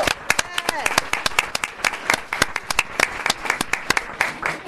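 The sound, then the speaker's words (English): A crowd applauds the nurses of the City of Baker school system with dense, irregular hand claps that keep a steady, lively pace throughout, sharp and fairly loud, with a brief murmur of voices early on. “I really believe that we can give them a little more vigorous hand clap than that, right?”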